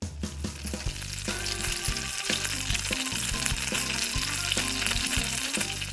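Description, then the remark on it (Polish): Breaded croquettes sizzle steadily in hot oil in a frying pan, a continuous crackling and spitting that fills the whole stretch, with a low rhythmic music bed running underneath and no one speaking. “Kiedy opanierowaliśmy już krokiety, a patelnia jest nagrzana, to możemy wrzucać je śmiało na olej.”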